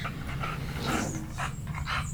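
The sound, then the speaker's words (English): A female bulldog pants heavily in a steady rhythm of rough, breathy huffs, continuous for a couple of seconds with no one speaking. “Because of the bulldog that you may or may not hear.”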